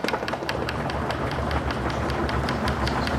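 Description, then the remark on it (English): A crowd raps knuckles on wooden desks to thank someone for a lecture in Germany, a dense, continuous clatter of overlapping sharp knocks, steady and fairly loud throughout, like a drumming round of applause with no voices. “What's all this banging on the desks about? That's how you thank someone for a lecture in Germany.”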